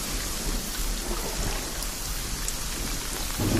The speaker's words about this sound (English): I really wish this rain would stop.